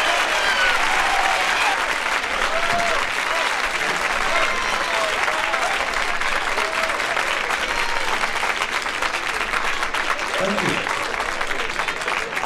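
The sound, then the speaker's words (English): Sustained, loud applause from a San Francisco audience as comedian Richard Pryor is introduced, a dense, steady wash of clapping with faint cheers and shouts rising now and then from the crowd. “Put your hands together and give him a big San Francisco round of applause.”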